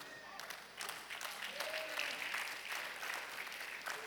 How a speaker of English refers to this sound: Thank you for those who clapped. For those who didn't, I'm praying for you right now.